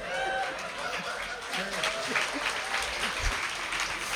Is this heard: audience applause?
yes